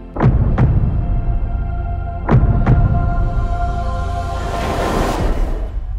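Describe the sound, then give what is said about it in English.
A deep, heavy heartbeat from the film Avatar: The Way of Water thuds twice in a lub-dub rhythm, each beat a pair of booming thumps, over a steady low hum, followed by a swelling airy whoosh. “So what does her heartbeat sound like?”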